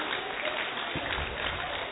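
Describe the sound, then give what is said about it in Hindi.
Steady audience applause, a dense wash of many hands clapping at an even loudness throughout, with no voices standing out above it. “जोरदार तालियां एक बार बजाएंगे.”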